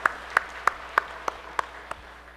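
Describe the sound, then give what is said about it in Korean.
An audience claps together in unison as applause giving glory to God, seven sharp, evenly spaced claps at a steady quick beat, slowly growing softer toward the end, with no talking. “하나님께 영광의 박수로 하나 하시겠습니다.”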